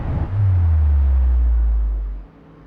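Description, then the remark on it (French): A deep, heavy engine rumble from thousands of futuristic flying cars in stacked layers over a city, nearly colliding, sweeps through for about two seconds, loud, holding steady before abruptly dropping away. No voices. “des couches de voitures se superposent, se heurtent presque en faisant beaucoup de bruit, et à travers les yeux effrayés du personnage qui regarde les voitures voler par milliers, eh ben, y a évidemment notre angoisse devant ces villes possibles.”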